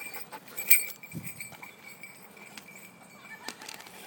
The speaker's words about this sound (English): For day 12, this is us in the park on the doggies free run.